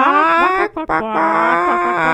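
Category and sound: vocal imitation, person imitating a chicken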